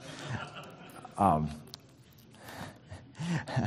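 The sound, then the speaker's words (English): A single sharp, throaty cough bursts out, surrounded by quieter breathing and faint rustling, with no talking. “Other than the cough, how terribly encouraging the verses are.”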